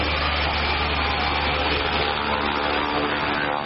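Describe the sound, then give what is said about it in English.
The engine of a Cessna Caravan, a 9 to 12 seat propeller plane flying in Chad, drones loudly and steadily, a dense roar with a low, humming pitch that holds without a break. No voices are heard. “It's quite a noisy plane.”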